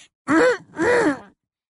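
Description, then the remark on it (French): Two short, affected fake little coughs in quick succession, Umbridge's prim voiced "hem, hem" with a throaty, mid-pitched tone, fairly loud and alone with no talking. “Hagrid, qui n'avait encore jamais entendu la fausse toux d'Ombrage, observait avec inquiétude le sombral le plus proche, croyant que c'était lui qui avait toussé.”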